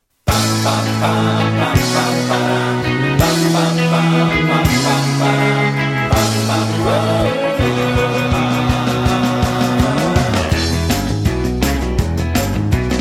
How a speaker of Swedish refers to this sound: Och nu skulle jag vilja presentera en låt.